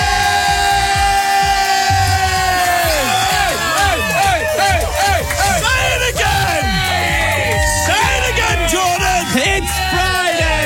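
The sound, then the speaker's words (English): A large crowd roars and cheers loudly and continuously, with overlapping yells and whoops rising and falling throughout, energetic; the big Friday cheer of the Capital Breakfast radio show. “We're taking the big Friday cheer international, baby.”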